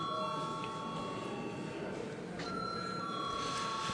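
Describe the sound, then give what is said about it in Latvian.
A bell rings steadily for several seconds to call a vote on the second reading of a bill amending the law on higher education institutions, giving a sustained, bright metallic ringing tone over a low murmur of voices and room noise. “Jā, paldies, lūdzu zvanu.”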